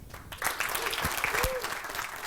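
Steady audience applause welcoming a speaker, a senior partner developer manager at ID at Xbox, swells in after a brief pause, a dense rush of many hands clapping at once, with a few scattered claps and faint murmurs standing out.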